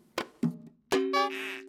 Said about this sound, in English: They tried strumming. And drumming.